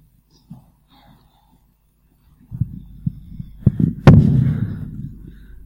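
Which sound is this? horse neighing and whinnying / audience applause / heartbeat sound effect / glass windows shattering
heartbeat sound effect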